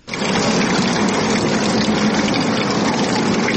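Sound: water running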